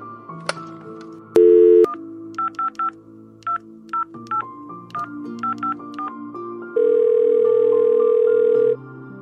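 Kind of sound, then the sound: signal or alarm, telephone dialing tones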